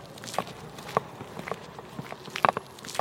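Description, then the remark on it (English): Footsteps walk steadily across the shiny floor of a trendy network office in New York City, each step a crisp, moderately loud tap spaced about half a second apart, with a faint background hiss and no voices. “As I walk into the trendy office of this network, it's clean, like a Pinterest post.”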